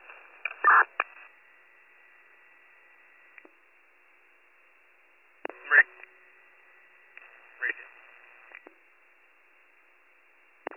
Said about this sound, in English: drop tones for the cancellation in case anybody else is coming.